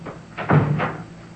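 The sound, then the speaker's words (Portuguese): A door swings closed with a soft, dull thud and a quick latch click just after, moderately loud, with no one speaking. “Por favor, feche a porta, sim?”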